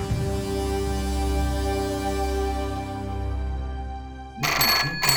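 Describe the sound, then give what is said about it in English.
A telephone rings harshly and insistently in the hall of a rest home, a steady harmonic tone that slowly fades, then ends in an abrupt, noisy burst near the close. No one speaks. “The phone rang harshly and insistently in the hall of the Elms Rest Home.”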